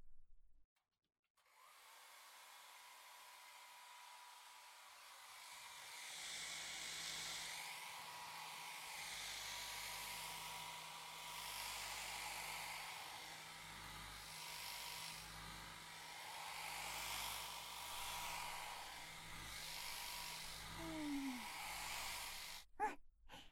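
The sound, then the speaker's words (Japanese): A hair dryer switches on after a short quiet start and blows steadily for about twenty seconds, blowing loose cut hair off after a haircut, its airy whoosh rising and falling slightly as it's moved around, then cuts off abruptly. “髪がベッドについちゃうからドライヤーで毛落としするぞ。”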